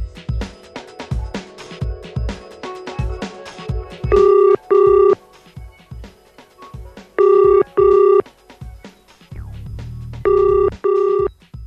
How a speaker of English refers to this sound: Your phone's been ringing all morning, and you haven't bothered to pick it up.